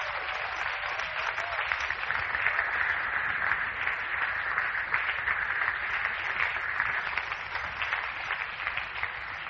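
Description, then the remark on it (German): A crowd applauds steadily for the full length, a dense wash of many hands clapping at an even, sustained level with no voices standing out. “Komm, lass uns jetzt mal einen Applaus geben darüber.”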